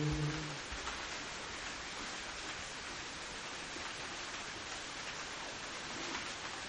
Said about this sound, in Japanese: はい、鎌倉は今日も雨です今日も雨で、なんか先週と全く同じシチュエーションだね。